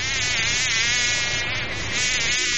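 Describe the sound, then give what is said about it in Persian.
A housefly buzzes steadily for the whole stretch, a dense, droning hum that wavers slightly in pitch but never stops, with no voices. “مگس جان، گاهی وقتا به خانه زورمنده و پیسداران رفتی؟”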